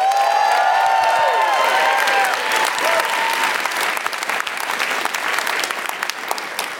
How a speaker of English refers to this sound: All right, let's get a round of applause. We're back from break.